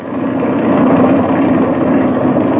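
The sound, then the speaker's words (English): A small airplane engine idles and warms up with the throttle opened slightly, a steady, loud droning hum that holds level throughout, with no voices. “I'll crack the throttle open a little bit and let her warm up.”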